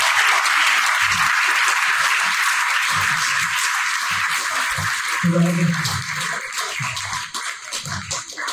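Sustained audience applause, a dense wash of many hands clapping at a steady loud level that thins slightly toward the end, with a few low voices murmuring underneath.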